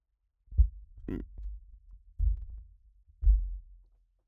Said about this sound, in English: Sorry, I'm adjusting my noisy chair here. Sorry about that. I'm going to also noisily adjust my microphone.